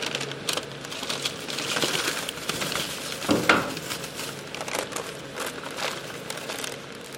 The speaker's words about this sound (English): start the DNA extraction process by cutting off the tapered end of the scat or shaving off a bit of the exterior surface here in the warehouse.